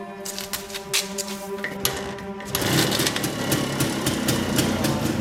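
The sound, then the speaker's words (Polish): A small engine chugs with a rapid, ticking rhythm, then roars louder and rougher partway through as it revs up and keeps running steadily. No one speaks. “To tylko troszeczkę paliwo nie leciało, ale ona za każdym dotknięciem. Chcemy teraz wyłączyć, oj.”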